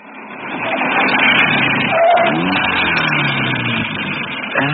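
A convertible car drives steadily with the hood down, a loud, constant rush of wind and road noise over a humming engine that rises slightly in pitch; no one speaks.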